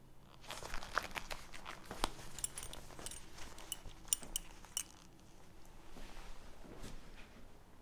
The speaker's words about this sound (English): Undo my belt. Do it now.